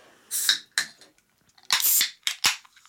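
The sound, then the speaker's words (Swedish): A can of Irn-Bru soda is cracked open: a few sharp metallic clicks and pops, followed by a short, bright fizzing hiss, with no one talking. “Okej, ska vi ta och poppa en sån här smaka?”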